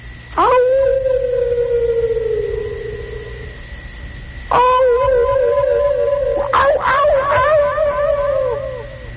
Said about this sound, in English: And it is the echoing sound of unfriendly animals.